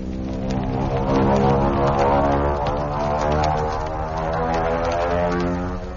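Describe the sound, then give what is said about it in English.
The engine of a low-winged racing monoplane designed by Mitchell, practically the same plane that won the Schneider Trophy permanently for England, roars in a loud, steady drone rich in buzzing harmonics, swelling slightly midway and holding strong for about six seconds, with no voices. “Hear that? That was practically the same plane that won permanent possession of the trophy for England.”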